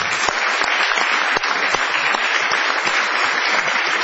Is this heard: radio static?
no